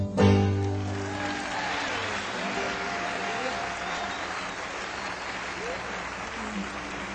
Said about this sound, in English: Thank you. Thank you so much. You're really wonderful. We really appreciate the nice applause.